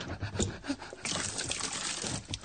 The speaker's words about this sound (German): Bitte, pumpe mir mal einen Schluck kühles Wasser.